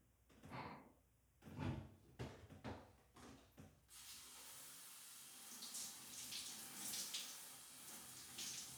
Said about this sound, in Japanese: じゃあ、泡流しちゃおう。